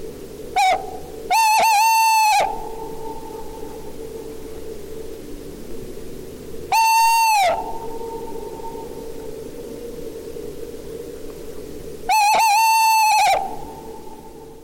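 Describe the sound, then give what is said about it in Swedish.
An owl calls loudly, three drawn-out, slightly wavering hoots spaced several seconds apart, the first preceded by a short clipped note, over a steady hiss of background noise. “Ja, så kan kanske kännas lite skrämmande om man hör den under natten eller sen.”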